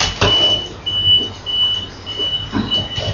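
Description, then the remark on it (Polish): A garbage truck collecting rubbish idles with a low engine rumble while a high-pitched reversing beep sounds about five times in a steady rhythm, with a few dull knocks mixed in. “Nie ma, samo śmieci przywieźli. Śmieci biorą.”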